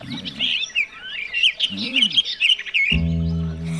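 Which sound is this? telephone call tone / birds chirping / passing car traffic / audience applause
birds chirping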